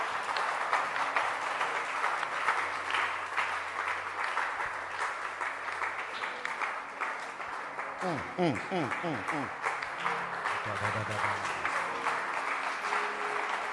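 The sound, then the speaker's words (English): A crowd at a church service claps hands steadily throughout, a dense wash of overlapping claps, with voices calling out and rising, wavering vocal sounds mixed in partway through. “Please be seated. Clap your hands.”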